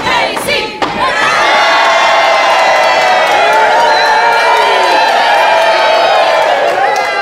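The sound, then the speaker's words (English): A huge crowd of 5,000 and more roars and yells in a sustained, loud wall of cheering that swells after a brief opening burst and holds steady throughout, dense with overlapping voices. “Then from 5,000 throats and more, there rose a lusty yell.”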